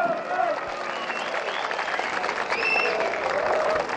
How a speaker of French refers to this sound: Sa situation n'est pas drôle, mais il a fait rire tout le monde. Et voilà, la situation se retourne pour lui et on finit par l'applaudir aussi gentiment que lui accepte la situation.